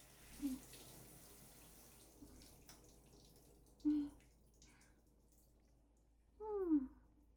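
A soft, steady rush of shower water runs throughout as shampoo is rinsed out of hair down to the ends with the shower and a hand, broken by three brief squeaky tonal sounds spaced a few seconds apart. No one speaks.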